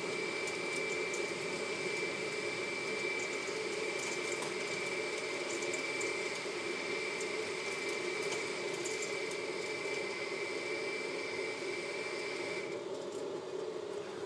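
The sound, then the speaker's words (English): A wood-pellet boiler that heats a house runs with a steady rushing, churning noise and a thin high whine, with light ticking and pattering from little wooden pellets dropping in, until the whine cuts out near the end. No one speaks. “but this is a boiler that heats the house that runs off little wooden pellets, so therefore it's renewable energy.”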